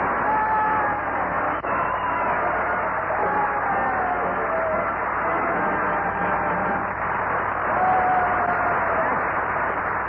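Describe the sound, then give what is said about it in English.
Steady, dense audience applause fills the whole stretch as Bob Hope is introduced on his broadcast show, a continuous wash of clapping with a crowd murmur and a few thin whistles rising above it, muffled and band-limited like an old broadcast. “All right, ushers, applaud a little.”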